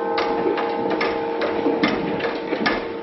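clock ticking

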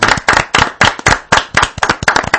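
applause

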